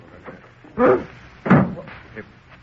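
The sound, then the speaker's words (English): A door is opened, marked by two solid wooden clunks about half a second apart, with faint indistinct voices murmuring underneath. “Pardon me while I answer the door.”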